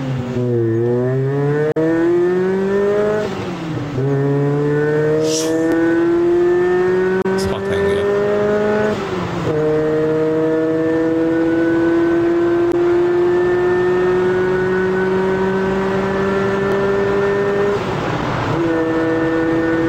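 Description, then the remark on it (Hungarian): A car engine being warmed up drones loudly and steadily for the whole stretch, its pitch climbing slowly in a few long revs, each one dropping back abruptly before rising again. No one speaks. “Én nem tudom, hogy ki találta volna, mert az alapjárat az egy-ez egyben olyan, mint az én Wolfsburg rémemé volt, tehát a kettes Golf GTI-nek, és hát igazából lehet mellé hallani a tüsszögést”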